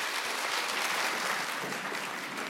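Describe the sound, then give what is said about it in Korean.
A crowd claps steadily for a few seconds to welcome a singer to the stage at a lecture event. The applause is a dense, even wash of many hands with no voices rising above it. “박수로 맞아주세요.”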